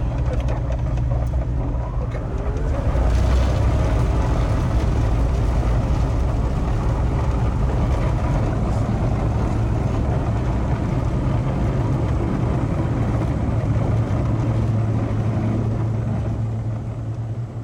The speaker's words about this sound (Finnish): Se käy vain silloin, kun on tarpeen, eli se ei pärise tyhjäkäyntiä silloin, kun voimaa ei tarvita. Potkuri ja moottori, ne heräsivät eloon vasta sitten, kun kaasuvipua taas työnsi eteenpäin. Kurecia Sierra 5 Delta Victor Echo, taking off from zero.